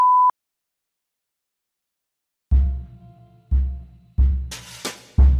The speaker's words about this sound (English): If this were written only to appear on the page, I might let the slur stand in quotation marks, but as I do not wish to offend or disturb anyone with audio of the spoken word, I will be censoring the racial slur with a beep.